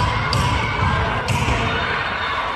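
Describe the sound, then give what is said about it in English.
Protesters bang on doors and windows at the state Senate building in Phoenix, protesting the Supreme Court decision to overturn Roe v. Wade: two sharp, heavy thuds land about a second apart over a loud, steady roar of crowd noise and indistinct shouting. “The sound of protest in Phoenix, where people banged on doors and windows at the state Senate building.”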